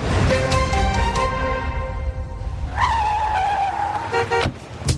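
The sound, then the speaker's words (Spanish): A car manoeuvres with its engine running, tires squealing loudly in drawn-out, pitch-bending screeches, and a short honk-like blare near the end, suggesting a clumsy, mishap-prone parking attempt. “Si estás estacionando y ocurre un imprevisto, no te preocupes.”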